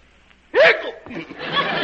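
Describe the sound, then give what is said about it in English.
One loud, abrupt hiccup from the character Mo bursts out after a quiet moment, a sharp voiced gulp that may be performed by a voice. Breathy, hissing noise follows and lingers to the end. “Still got the hiccups, eh, Mo?”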